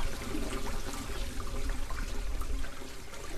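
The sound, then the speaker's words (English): Water gushes steadily from a plastic pipe hooked to the bottom of a tank into the Rio Grande, releasing rescued silvery minnows; a continuous loud rushing and splashing with no break, no voices heard. “hooks up a plastic pipe to the bottom of the tank, and the water pours out into the river.”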